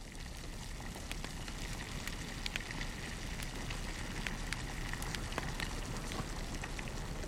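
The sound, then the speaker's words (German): An open fire in a mountain cave crackles with a tea kettle steaming on it, with irregular sharp pops and snaps over a steady rushing hiss, continuing evenly throughout with no voices. “Er führt sie zu seiner Berghöhle, in der auf dem offenen Feuer der Teekessel dampft.”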